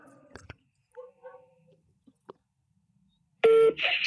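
Telephone dialing to call a mother: a few sharp clicks and short, soft beeps, then a loud, steady electronic ringing tone sounds abruptly near the end. No one speaks.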